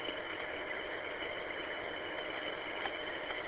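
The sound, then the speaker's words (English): A small tractor engine, used to fix up a driveway, runs at a steady idle, a continuous, even drone with a faint rattling texture that holds at the same moderate loudness throughout, with no voices. “Might have a little tractor on behind, and here we go.”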